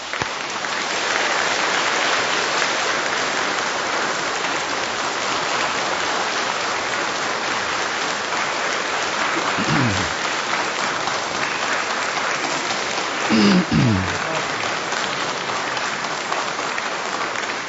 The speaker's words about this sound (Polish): Nagródźmy go oklaskami.